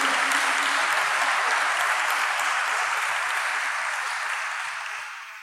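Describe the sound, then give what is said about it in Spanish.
Sustained crowd applause for Christ, a dense wash of many hands clapping loudly and steadily before tapering off slightly at the end. No voices are heard over it. “Dale un aplauso a Cristo, porque ese Cristo vive en vos y vive en mí.”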